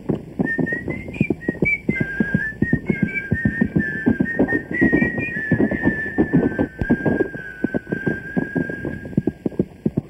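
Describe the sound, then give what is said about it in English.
A man riding a horse at night whistles a wandering tune throughout, clear, over a steady, rhythmic clip-clop of the horse's hooves that continues beneath it the whole time. “I'll whistle to keep your courage up.”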